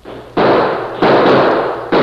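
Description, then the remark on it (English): Three loud gunshots ring out at uneven intervals during a shootout at a house, each a sharp crack that hangs briefly with a broad, ringing tail before the next one fires. No voices are heard. “We can hold them off until the Lazy Bee riders hear the shooting.”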